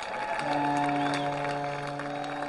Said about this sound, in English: Little mini foghorn every time South Bend gets a run.